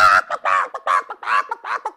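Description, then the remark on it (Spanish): A person loudly imitates a hen's frantic cackling as the hen throws a tantrum, a rapid series of about seven harsh, squawking bursts in quick succession, forceful. “Comenzó a cacarear tan fuerte y se puso tan roja y se desplumó completa.”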